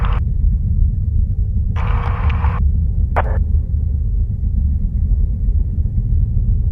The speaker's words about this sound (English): We're gonna raise the stair truck and look inside before we go in.